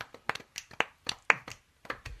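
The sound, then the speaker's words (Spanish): A soft golf clap welcoming a guest poet: about ten light, crisp hand claps in a loose, uneven rhythm over two seconds, fairly quiet, with no voices. “¿Hacemos un aplauso de golf? Un aplauso de golf.”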